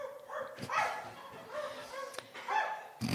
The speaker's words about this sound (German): Irgendwo in der Ferne hören sie einen Hund bellen.